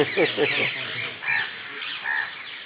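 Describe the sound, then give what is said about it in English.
Harsh, raspy squawks from parrots repeat in rough bursts, several calls overlapping into a noisy chatter that rises and falls, loud throughout. “See all the parrots, they're laughing.”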